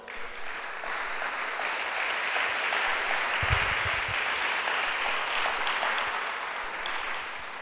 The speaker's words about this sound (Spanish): Damos un aplauso a Dios, por favor.